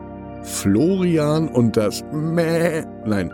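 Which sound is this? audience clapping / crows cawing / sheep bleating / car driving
sheep bleating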